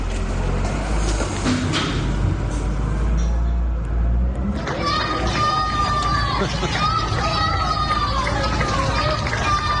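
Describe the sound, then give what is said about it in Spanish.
A low rumbling hum fills the first few seconds, then many high-pitched children's voices break out shouting thanks from balconies to workers who had just restored the electricity, in an overlapping, excited chorus that carries to the end. “Los más pequeños de la casa, dándoles las gracias a estos operarios que, por supuesto, se les ponía la piel de gallina.”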